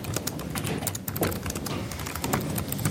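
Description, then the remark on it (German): Steady, rapid clatter of soft keystrokes on a quiet computer keyboard, with irregular clicks running continuously and no voices. “Ich höre schon eine Tastatur, aber eng löse.”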